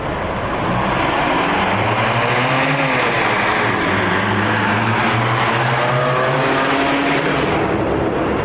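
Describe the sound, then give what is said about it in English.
A car engine drones steadily as Michael drives on his way to meet Alex, its hum rising and falling slightly in pitch over a constant wash of road noise. No one speaks. “In his car, Michael stares intently through the windshield on his way to meet Alex.”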